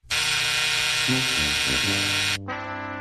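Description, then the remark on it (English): A loud, harsh electronic buzzer blares in one steady, unbroken tone for a couple of seconds, then drops abruptly to a thinner, duller buzz that keeps going to the end. “That is a buzzer-worthy match.”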